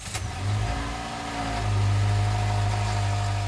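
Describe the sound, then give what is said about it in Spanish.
A car engine runs with a steady low rumble as the car is driven to the university, its pitch climbing once as it revs up partway through, then holding at a louder hum. No one speaks. “Tendré que dejar el auto acá e irme caminando.”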